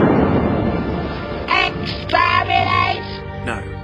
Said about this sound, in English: As the Dalek guns blast Barda, the space station Nova Alpha explodes, leaving the Daleks and their ship with it.